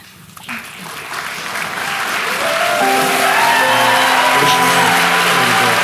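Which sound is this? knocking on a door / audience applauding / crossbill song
audience applauding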